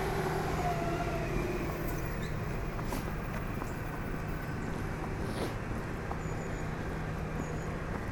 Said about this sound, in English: Oh, that's loud. There's a truck going past.